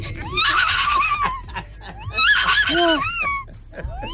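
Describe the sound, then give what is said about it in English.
A person imitates a horse neighing during an animal-impressions segment on East Coast Radio, in two loud, quavering whinny bursts with wavering pitch, followed by a brief softer snort-like trailing sound. “and I can make a noise of a horse.”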